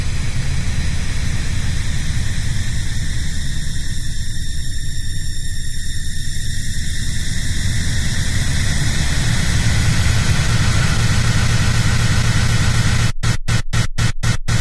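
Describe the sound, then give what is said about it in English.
Ambient drone music made from audio glitches, normalized and limited to 0.01 decibels: a dense, steady noisy, glitchy texture with rumbling lows and hissing highs, droning loudly without pause, then cut by a few sharp rhythmic dropouts near the end. “Now we have a copy of a perfectly dynamic ambient drone music.”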